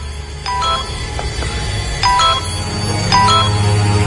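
A mobile phone that has just found a signal outside a house chimes over and over with short electronic notification tones, several distinct bursts a second or so apart, ringing out clearly above a steady low background rumble.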